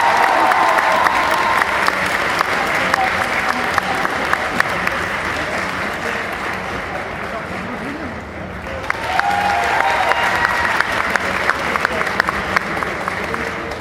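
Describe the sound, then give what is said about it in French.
A loud, sustained burst of audience applause welcoming a guest for the weekend, dense clapping from a large crowd filling the whole stretch, with a brief dip midway before surging again, and faint voices mixed in. “À la tonnerre d'applaudissements.”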